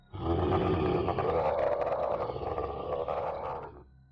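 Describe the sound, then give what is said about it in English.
A single loud, wailing howl holds steady for about three and a half seconds, rough and harmonic, its pitch rising slightly midway before fading out. No one speaks. “Her words were cut short when another wailing howl echoed from seemingly right behind us.”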